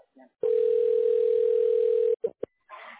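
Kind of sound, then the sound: signal or alarm, telephone dial tone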